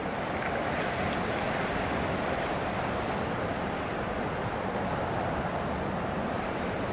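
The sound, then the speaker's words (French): Rough sea waves crash and churn continuously while strong wind roars across a cold beach, a loud, dense, unbroken wash of noise with no voices. “Donc on arrive, il y a du vent, il fait froid, il y a des vagues vraiment mauvaises.”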